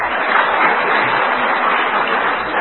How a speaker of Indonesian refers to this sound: Tepuk tangan.